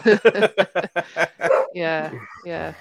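A rapid run of short, yappy dog-like barks, followed by drawn-out whining howls, fairly loud, which sounds like a person imitating a dog.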